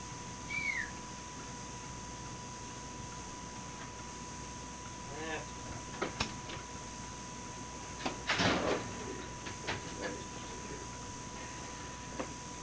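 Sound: door opening and closing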